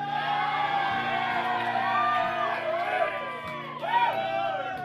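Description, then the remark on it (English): A crowd cheers and whoops steadily for about five seconds, with overlapping shouts and high excited voices rising and falling, plus a brief louder swell near the end. “I don't even know what that cheer's for.”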